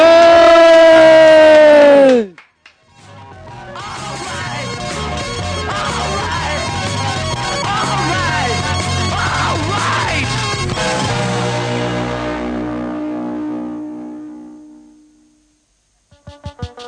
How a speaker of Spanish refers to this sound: Tenemos que pegar todos un grito